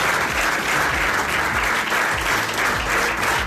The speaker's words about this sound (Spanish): Este aplauso cerrado ha sido el recibimiento hoy al embajador a su llegada a la delegación de gobierno. Un salón repleto, como digo, un aplauso cerrado y un grito claro de lo que está sucediendo en Palestina.